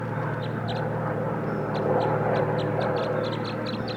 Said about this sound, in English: Here comes the other, and they're chittering a little bit.